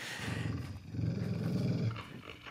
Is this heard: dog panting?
yes